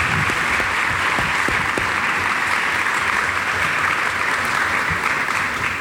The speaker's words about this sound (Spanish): A los cuatro, muchísimas gracias por estar con nosotros y aceptar colaborarnos en esta cátedra de realidad. Un aplauso, por favor, para nuestros panelistas.